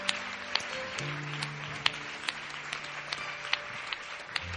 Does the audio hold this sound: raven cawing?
no